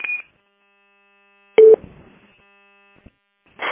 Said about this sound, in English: Is that just, is it just keying up with static? Because it's keying up with something. I just, that sounded like there was background noise and somebody might have been sitting on a microphone or something.